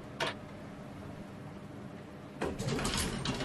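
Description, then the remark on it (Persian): An elevator door slides shut: a short click, a steady low hum, then a louder rumbling, rattling slide that runs to the end with a faint ticking texture. “در آسانسور بسته میشه.”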